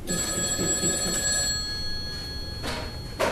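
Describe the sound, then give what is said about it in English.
A telephone rings with a steady, high electronic trill held for about two and a half seconds, followed by a couple of brief rustling clicks, with no one speaking. “Those complications began with a phone call from the last guy on Earth I wanted to hear anything from.”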